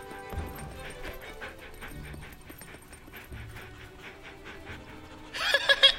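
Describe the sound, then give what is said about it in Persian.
Puppies yip and whimper in a busy, overlapping chorus of short high cries, with a louder burst of excited squeals near the end. “اوه دندونای تیزی هم دارین توله سگا.”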